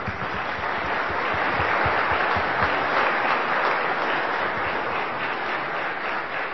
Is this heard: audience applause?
yes